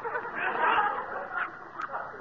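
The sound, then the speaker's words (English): A small puppy yaps from inside a shirt drawer in a bureau, in a busy, high-pitched stream of quick barks and squeals, moderately loud, running steadily for a couple of seconds. “It's only a dog, silly. I got a little puppy.”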